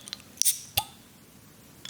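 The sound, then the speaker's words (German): A Heineken beer bottle being opened: a sharp metallic click with a brief burst of fizzing hiss, followed moments later by a second crisp click, with quiet around it and no talking. “Ja, wir trinken ein Heineken. Ja. Warte, ich mache auf.”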